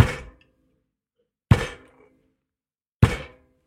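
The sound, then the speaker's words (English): A neighbour takes shopping out of the back of their car: three heavy, hollow thunks, evenly spaced about a second and a half apart, each fading quickly with no voices. “My neighbour's undoing their, taking the shopping out the back of their car.”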